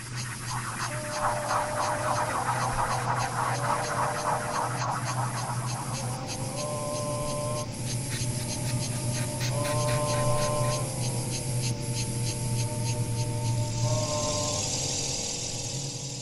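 A sound installation in the Schwesternpark at the Wittener Tage für neue Kammermusik, Kirsten Reese's composition for mobile insects, people, instrumental voices and their electronic transformations, blends a steady low hum and dense, buzzing insect-like rasping with sustained instrumental tones that shift in short repeated phrases, plus sparse soft clicks. No one speaks.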